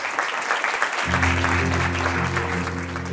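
Sustained applause from an audience, a dense, steady wash of clapping throughout, joined after about a second by low, steady musical tones underneath.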